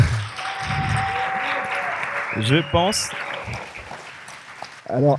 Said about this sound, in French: Je pense qu'on entendra les applaudissements. Il y a beaucoup de monde, hein, c'est impressionnant.